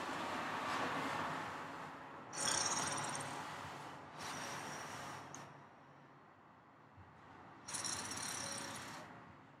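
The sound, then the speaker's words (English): Loud, rasping snores come in long, rattling breaths, about four of them in a slow, uneven rhythm, each a harsh noisy drone with short pauses between. No one speaks. “does he really snore like that?”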